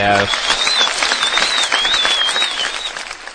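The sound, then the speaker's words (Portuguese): A steady round of applause from a crowd, dense and continuous clapping that stays loud throughout, with a faint whistle-like tone riding over it. “Sala de palmas.”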